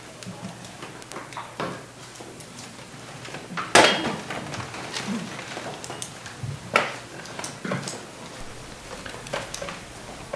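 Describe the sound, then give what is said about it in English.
A door shuts with a sharp knock, then another thud a few seconds later, against a quiet background with faint shuffling and rustling. “To be in this moment right now, to quieten, perhaps if someone could just close the door back over there, I'd be grateful.”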